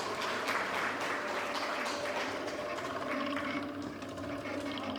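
A crowd applauds steadily, a dense wash of many hands clapping at an even, fairly loud level for several seconds, with a faint low hum underneath and no one speaking.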